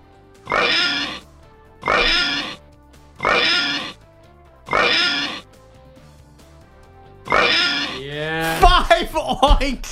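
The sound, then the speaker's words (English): Five loud pig oinks, each a short snorting grunt, the first four evenly spaced and the fifth after a longer pause, followed by a rising, squealing pig-like flourish at the end. “Five oinks.”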